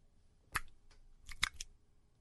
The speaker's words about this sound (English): here's eye popping. Now this is of course from the Fantastic Scary Sound CD